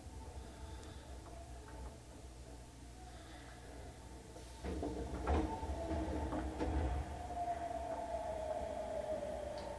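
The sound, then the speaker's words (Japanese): Steady low rumble inside a train at Tenmabashi station, then around the middle a loud clunk and rush as the right-side sliding doors open, followed by a thin whining tone and a few scattered knocks. “右側の扉が開きます。ご注意ください。”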